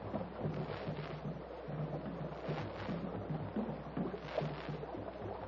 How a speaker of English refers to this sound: Listen. Talking drums again. They are probably telling their tribesmen of our escape.